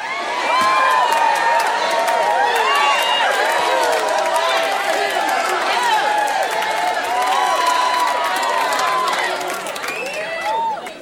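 A crowd cheers and applauds loudly and steadily for about ten seconds, with many overlapping whoops and shouts over a dense wash of clapping before it tapers off at the end.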